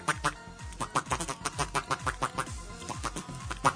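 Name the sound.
voice imitating duck quacking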